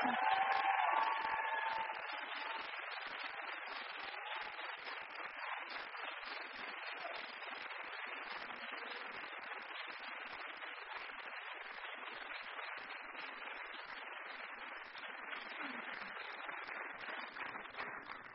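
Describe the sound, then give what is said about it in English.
A large audience claps for a group of singers after their performance, steadily for about eighteen seconds, a dense, even wash of applause with a few cheers and a brief high whoop near the start. “And can we just have another massive round of applause?”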